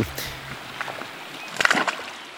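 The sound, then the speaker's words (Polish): Fish leap from the water to take in air, breaking the surface in a few quick splashes, faint at first, then a louder cluster of wet plops near the end over a quiet, still outdoor background. “Z tego zadumania może nas wyrwać na przykład plusk. O, delikatnymi albo bardziej, o, proszę bardzo. Czyli ryby fikają koziołki, by zaczerpnąć trochę powietrza.”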